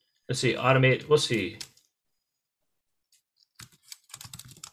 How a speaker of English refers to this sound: It's like keyboard sounds? Type in keyboard sound.